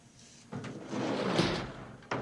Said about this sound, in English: He pushes the sliding door and steps into the storeroom.